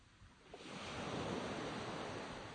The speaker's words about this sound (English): On this peaceful lane, you can hear and see the stream splashing down the valley. This bright, fast-flowing little brook powered four mills in the valley, grinding the grain grown by local farmers.